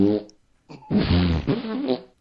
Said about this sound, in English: It's on GitHub. It's called fartscroll.js, and it does pretty much what you would imagine that it does. It's so juvenile.